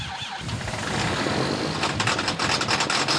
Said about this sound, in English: It takes a few tries before Dennis Jones's tractor starts up. It doesn't like the cold.